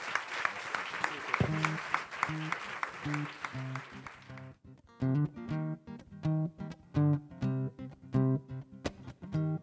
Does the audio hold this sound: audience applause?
yes